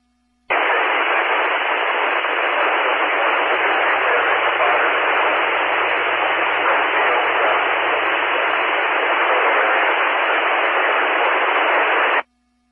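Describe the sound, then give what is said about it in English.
A loud, steady hiss of radio static over a weak amateur radio transmission from a mobile station in the Redfield and DeSoto area during a tornado warning switches on abruptly, fills about twelve seconds, then cuts off, with a faint, low, buried signal murmuring underneath through the middle stretch. “Station transmitting, I couldn't get you above the static.”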